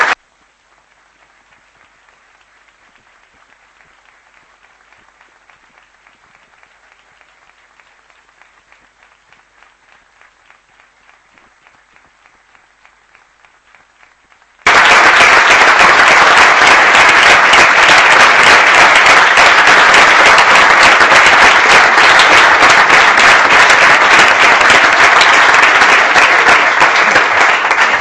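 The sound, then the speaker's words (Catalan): Audience applause at a session where the applause serves as the affirmative vote of all groups approving a favourite-daughter title: it starts as scattered, soft clapping for about fifteen seconds, then abruptly swells into loud, sustained, dense clapping from a large crowd until the end. “Família, abans de marxar, però, jo demano, bé, entenc que amb aquest aplaudiment, secretari, hem fet aquest vot afirmatiu tots els grups, i per tant, vol dir que queda, per tant, perfectament acordat aquest punt”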